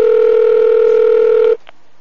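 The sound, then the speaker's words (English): A steady, loud telephone dial tone hums for about a second and a half, then cuts off abruptly, followed by one brief, faint dialing beep, as someone phones the Indian restaurant Sitar to order Indian food. “Alright, we're calling Indian food again.”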